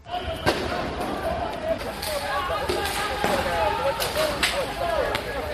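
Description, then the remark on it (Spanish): A street protest in Beirut, Lebanon, against the Lebanese government: a dense, constant roar of many voices shouting together, broken by sharp bangs and thuds that hit at irregular moments throughout. “Este es el sonido que nos llega desde el Líbano, desde Beirut, en las últimas horas. Son manifestaciones.”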